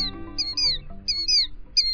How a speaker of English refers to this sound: The rhythmic cries of a killdeer are familiar across most of the country in spring and summer. It's our most often seen plover, the one with the double dark breast bands.